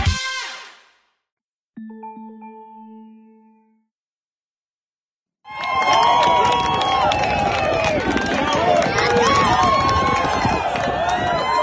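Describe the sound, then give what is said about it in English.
After a brief tonal chime and a pause, a loud, dense roar of crowd cheering bursts in and keeps going steadily to the end, thick with overlapping shouts and high whoops, at a Liberty men's lacrosse game on campus, from an Instagram post of March 13th on Jerry Falwell Jr.'s feed. “The cheering you hear is from an Instagram post on March 13th from Jerry Falwell Jr.'s feed.”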